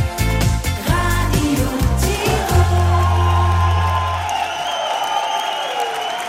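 An audience claps steadily at a live Radio Tirol music show recorded at the Fohlenhof, while a musical chord rings out over it; the music fades after a few seconds and the dense applause carries on alone.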